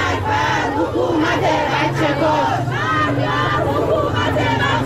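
A large crowd of protesters chants slogans in unison in front of the Ministry of Education building, loud and continuous, voices rising and falling in rhythmic waves with a low rumble of background noise underneath.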